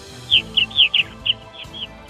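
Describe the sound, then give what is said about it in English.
Purple martin calls from a colony in Northern Indiana: a quick run of about seven bright, gurgling chirps in an uneven rhythm, set over a low, steady hum. No one speaks. “Northern Indiana Purple Martin landlords love listening to Issues Etc. while tending their colonies.”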